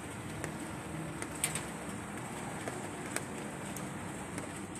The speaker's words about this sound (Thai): ขณะนี้ก็ฝนตกอยู่นะคะฝนตกแบบว่าปล่อยๆไม่ใช่มีพายุแต่อย่างใดเป็นอากาศที่เย็นกำลังดีนะคะเปิดหน้าต่างรับไอเย็นๆของฝนนะคะแล้วก็นั่งฟังเสียงฝนตกนะคะอยากให้ทุกท่านที่ฟังพอดแคสต์อยู่ได้ยินเสียงฝนนะคะกระทบกับโลหะนะกระทบกับหลังคารถอยู่ขณะนี้นะคะ